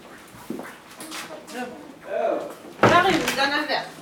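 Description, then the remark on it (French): Hospital doors open and shut with a couple of dull thuds, one early and a louder one near the end, while voices or whining sounds carry on around them. “C'est des portes qui s'ouvrent et qui se ferment.”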